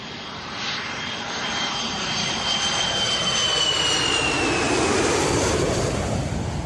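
A steady, loud airplane engine roars continuously, a broad whooshing drone with a high whine that slowly rises and swells, alone with no talking.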